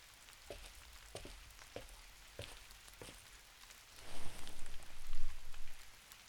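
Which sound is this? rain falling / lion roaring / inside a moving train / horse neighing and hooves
rain falling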